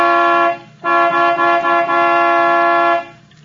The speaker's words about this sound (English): All right. I'll give it the horn.